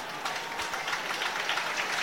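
A large crowd of Nottingham Forest fans claps steadily in a football stadium during a match against Crystal Palace, a dense wash of applause that swells slightly and carries on without pause, with no voices standing out.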